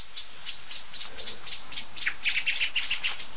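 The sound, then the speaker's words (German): Several songbirds, blackbirds and song thrushes, give sharp, loud scolding alarm calls in a rapid, steady series, growing louder and more crowded toward the end, with no talking; two or three birds look the same way, excitedly twitching tails and wings. “Und ihr hört es ja selber. Schimpfen, schimpfen, schimpfen.”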